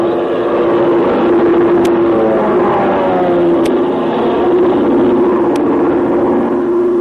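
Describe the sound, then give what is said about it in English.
A Chinese army plane's engine drones steadily overhead as it looks for a place to set down, a loud, continuous hum with a wavering pitch, broken only by three faint, evenly spaced clicks. “You can't make out what kind of a plane it's it is. It's an army plane.”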